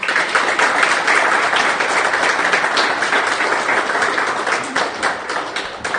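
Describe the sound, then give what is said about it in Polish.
A crowd applauds steadily, a dense wash of many hands clapping at an even, fairly loud level throughout, with no voices rising above it. “Bardzo dziękuję. Brawo.”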